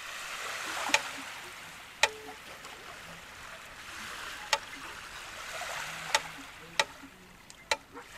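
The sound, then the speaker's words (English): Sea water laps gently at the shore as the tide comes in on Blackrock Beach in Dublin in 2020, a soft, steady wash broken by about seven sharp little slaps or clicks scattered irregularly throughout. Quiet, with no voices. “that was performed as the tide was coming in on Blackrock Beach in Dublin during the Biosphere Festival in 2020.”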